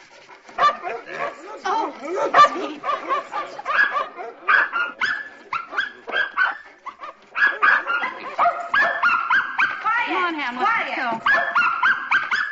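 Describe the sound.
Several dogs bark, yelp and whimper in rapid, overlapping bursts, loud, with high whines threaded between the barks and a person briefly speaking amid the commotion.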